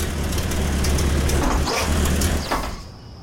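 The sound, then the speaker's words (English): A car rolls slowly down a driveway, its low engine rumble steady under a wash of tire and gravel noise, easing off and fading in the final moments. No one speaks. “There's a car coming down the drive.”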